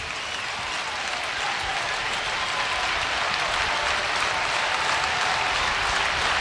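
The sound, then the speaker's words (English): A baseball crowd cheers and claps during a UCLA game, trying to help Casey through his first at bat on a 2-2 count, in a steady, sustained roar that holds at an even, fairly loud level for the whole stretch, with no voices speaking over it. “Crowd trying to help Casey through this first at bat.”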